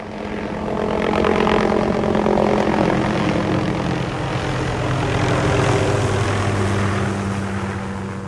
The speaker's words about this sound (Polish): Jak widzimy, śmigłowiec nadlatuje ze zbiornikiem wody podwieszonym. Za chwilę dokona pierwszego zrzutu i wesprze nas w gaszeniu pożaru lasu.